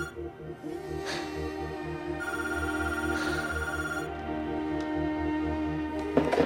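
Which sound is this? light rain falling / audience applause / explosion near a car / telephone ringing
telephone ringing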